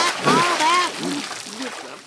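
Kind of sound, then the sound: nature, splashing water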